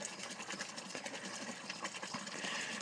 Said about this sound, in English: I would do one out here near the water garden so that the waterfall could be heard in the background. I think it's pretty cool. I like to come out here and sit and relax. To me, the sound of a waterfall is relaxing, but maybe I'm just strange.